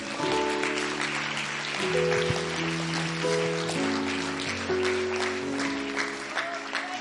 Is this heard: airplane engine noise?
no